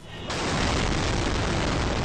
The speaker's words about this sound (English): Ah. Crazy sounding. That's a shaky sort of audio from a cellular phone obtained by the Associated Press. That was the second of two suicide bombs that struck near the fortified Green Zone in Baghdad on Sunday.